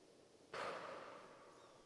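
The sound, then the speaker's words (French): A single sharp, breathy exhalation bursts out suddenly as a river dolphin surfaces to breathe through its blowhole beside a small boat, one of about a dozen grey and pink dolphins with long thin beaks, then trails off into a soft hiss over faint background noise. “Par moments, vous apercevez les nageoires et les queues du dauphin. Leur respiration.”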